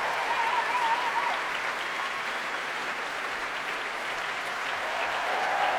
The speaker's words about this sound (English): Applause for the brass there, the saxophones, trumpets on their feet.